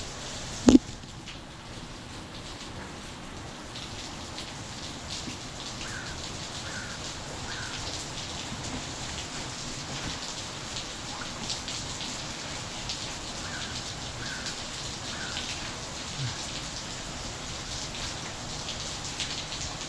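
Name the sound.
rain falling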